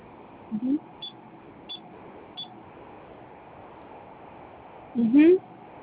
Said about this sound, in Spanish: Ok, vamos a presionar tres veces tecla de gato.